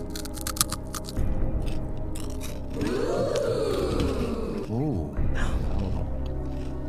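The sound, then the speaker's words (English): Crunchy biting and chewing of something crisp, with sharp snaps early on followed by sustained munching and muffled mouth sounds. “It's like you recognise the crunch because you only really hear the crunch from the perspective of inside your own it's head.”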